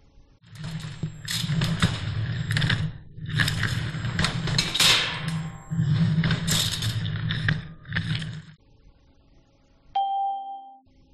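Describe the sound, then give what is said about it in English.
Furniture being moved: heavy scraping and dragging in several long, loud bursts with brief pauses, over a low rumble, followed after a short silence by a single clear ding. “They're moving furniture.”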